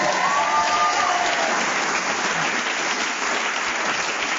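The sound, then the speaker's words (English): A short, shrill whistle blast at the start ends a round of a panel game, quickly swallowed by loud, steady applause from the audience that carries on to the end. “So, Graham Norton got many points in that round, including one for speaking as the whistle went, and he has leapt forward and he's now in a very distinctive lead.”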